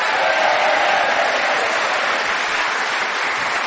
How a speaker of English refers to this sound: So what I think is any fair thing to say, let's give both of them a big round of applause.